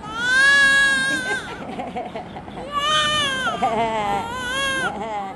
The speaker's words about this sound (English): In this maternity ward, one of two the foundation runs in Karachi, a newborn wails her way into life.